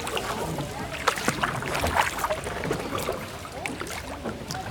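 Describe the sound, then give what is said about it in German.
A wooden punt glides through water in the Spreewald, Germany, with steady sloshing and gentle splashes, broken by occasional knocks and drips over a constant soft wash, with no talking. “Da kommt noch ein drittes Boot. Ja. Noch ein Kahn.”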